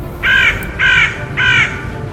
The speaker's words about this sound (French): Les corbeaux crient au-dessus du champ de bataille.